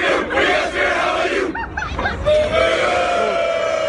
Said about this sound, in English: The young students responded by turning away from the verbal attack and engaging in spirited school cheers.